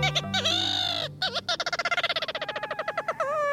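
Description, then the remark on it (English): Ross's gull calls: a few drawn-out, slightly wavering tonal notes, then a fast, rhythmic series of sharp, repeated yelping notes, loud and clear over a low background hum. “Ross's gull has a reputation for beguiling birders.”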